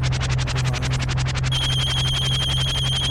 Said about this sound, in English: Hold on. Let me get the phone. Hold on.